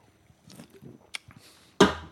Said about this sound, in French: Je prends un petit peu de Toro Loco. Attendez, je reprends une gorgée, la merde.